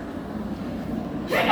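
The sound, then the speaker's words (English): A low, steady murmur runs for a moment before a single sudden, loud, breathy sneeze bursts out right at the end. “Bless you.”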